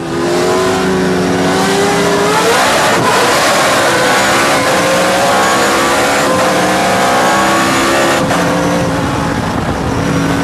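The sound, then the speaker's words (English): A race car engine roars loudly as it launches at the start of a race from about 1,000 RPM, its pitch climbing steadily, then dips with a gear shift before rising again, a continuous howl throughout with no voices. “Oh yeah, so he hit it from like 1,000 RPM and then had a shift.”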